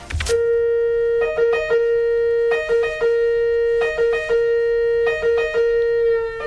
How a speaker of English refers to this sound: In second place for Dave Rank's ambulance noises from around the world, it's Italy.